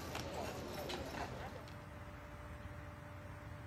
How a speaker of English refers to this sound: A horse and carriage transported her body to its final resting place.